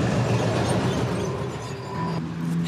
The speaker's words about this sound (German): Da kam uns jetzt ein Zug dazwischen.